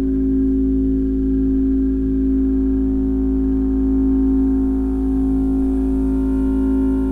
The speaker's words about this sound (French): Par exemple, je vais mettre ça à la basse là. Donc là, j'ai un son très grave qui sort ici. Et avec la table de mixage, je peux l'envoyer sur le petit haut-parleur qu'elle a.